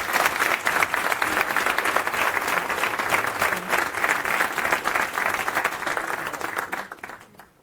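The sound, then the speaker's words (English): A crowd applauds steadily, dense overlapping claps at a loud, even level for several seconds before tapering off and fading out at the end. “So, I would like to ask for a round of applause for the team to get us to this point.”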